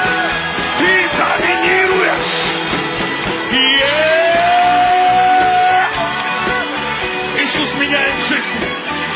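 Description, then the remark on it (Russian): A large crowd shouts and cheers loudly and continuously, voices overlapping in a dense roar with sustained yells and whoops rising above the din, energetic throughout. “Кричат те, кто доминирует в духовном мире!”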